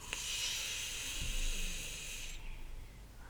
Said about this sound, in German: Indem man ganz tief ein- und ausatmet. Genau. Und jetzt atmen wir ganz tief ein.